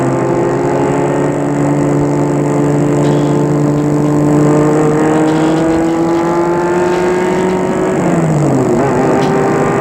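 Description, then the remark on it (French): A car drives from the airport to Lyon with a loud, steady engine drone whose pitch slowly climbs, then drops sharply as it shifts gear near the end; no voices. “De l'aéroport, une voiture le mènera à Lyon.”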